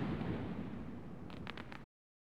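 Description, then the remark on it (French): Fireworks set off on Christmas Eve, as is tradition in large cities such as Buenos Aires, Córdoba and Rosario: a steady low rumble of booms, then a quick cluster of sharp crackling pops near the end before it cuts off abruptly. “Dans les grandes villes comme Buenos Aires, Cordoba et Rosario, c'est une tradition que des feux d'artifice et même des ballons soient lancés le soir de Noël.”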